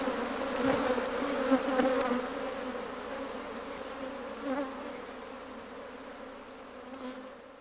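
A steady, dense drone of many bees buzzing together, fairly loud, with slight swells in intensity as individual insects pass. No voices.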